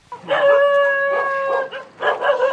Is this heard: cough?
no